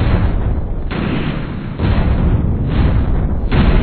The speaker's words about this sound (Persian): بعد از این اتفاق، بعد از اینکه اولین بمب اتمی با موفقیت منفجر میشه،